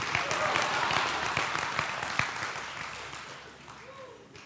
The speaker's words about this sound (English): You can clap a little bit better if you want to for Home Alone.